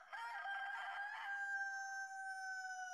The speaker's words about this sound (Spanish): Lo que sí se oyó, muy a lo lejos, fue un canto de gallo que para algunos de nosotros